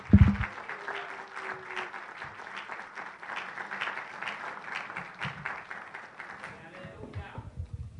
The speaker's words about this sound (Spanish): Démele un aplauso al Rey de Reyes, Señor de Señor.